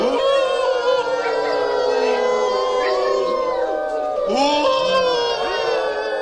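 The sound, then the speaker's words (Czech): Several people at a workshop in Greenland howl together in imitation of husky polar dogs, practising how the dogs howl: long overlapping wavering wails rising and falling for several seconds, loud, with no ordinary talk. “čekal nás workshop, ve kterém jsme se učili, jak takový polární psy správně ví”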